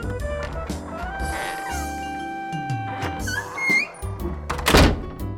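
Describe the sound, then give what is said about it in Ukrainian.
In a children's story, a fox, a bear cub and a hare knock on a hedgehog friend's wooden door: a few dull, hollow thuds, with sustained tonal music playing underneath and a sharper, louder burst near the end. “Ну що, стукаємо в двері?”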